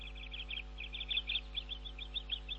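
Small birds chirp in quick, repeated bursts throughout, a busy run of high tweets, heard fairly quietly over a low, steady background hum with no talking.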